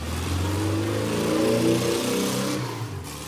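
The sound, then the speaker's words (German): A car engine revs up with a rising, steady harmonic whine, then pulls away, the sound shifting and fading slightly toward the end, as an angler drives his car from Berlin to the Baltic Sea. Fairly loud, no voices. “Ein Angler aus Berlin fuhr mit seinem Auto an die Ostsee.”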